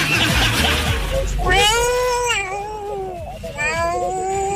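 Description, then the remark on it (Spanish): A cat meows loudly and insistently, drawn-out wavering cries repeated two or three times, with a brief noisy clatter at the start. “Venga, gatito.”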